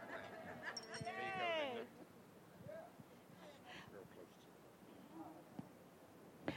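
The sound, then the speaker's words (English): A guide dog, a cross between a yellow Labrador and a golden retriever, whimpers in a high, wavering whine for a couple of seconds near the start, then fainter, scattered whines and soft room noise follow. “And she's from the boring campus, so she's happy to hear another boring dog in the room.”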